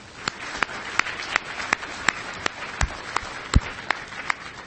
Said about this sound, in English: Let's give a good round of applause for the goons out here and the hard work they're doing.